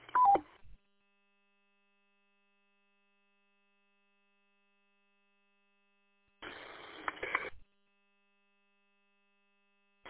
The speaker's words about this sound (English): That four station, can you please turn off your Roger beep, please?